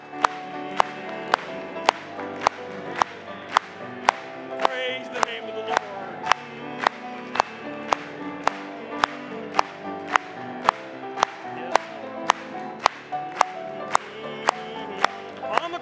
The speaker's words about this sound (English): Let's just clap it to him again.